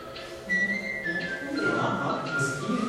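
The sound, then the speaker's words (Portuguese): A long, steady whistle holds one high pitch for about a second, then shifts lower and continues faintly, over a busy, muffled background noise. “Vai ser mais ou menos assim mesmo. Vai ter esse assobio.”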